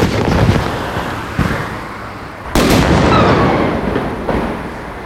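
Several sudden, booming explosions at locations around Vienna, Austria, burst out over a loud, rumbling background, with one especially sharp, powerful blast near the middle followed by a long, roaring decay; no one speaks.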